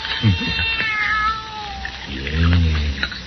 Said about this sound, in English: Nobody's going to hurt your kitty, kitty. No. How about some milk, huh?